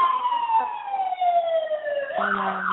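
A loud emergency siren wails steadily with a falling pitch as the vehicle passes outside, then switches abruptly to a different warbling tone near the end.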